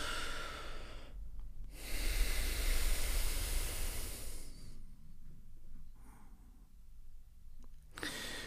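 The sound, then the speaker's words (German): A deep, forceful exhale through both nostrils at once during a breathing exercise, a loud, airy rush lasting about three seconds, preceded by a shorter breath and followed by near silence before another breath begins. “Wir nehmen nochmal tief Luft und atmen dann aus beiden Nasenlöchern gleichzeitig aus.”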